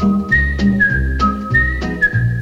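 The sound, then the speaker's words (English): A person whistles a short, steady melody of sustained notes, a few clear tones held and shifting in pitch, fairly loud with no talking. It is the closing theme melody of a TV show, whistled by composer Earl Hagen himself. “By the way, Earl Hagen did the whistling himself,”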